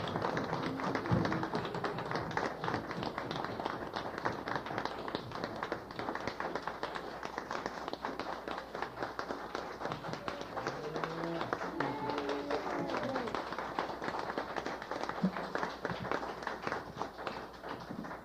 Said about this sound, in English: That applause is for a lot of good reasons. It's for Mark, it's for you, it's for Gary Cooper, Gary Grubbs, and many, many others that we've known and lost.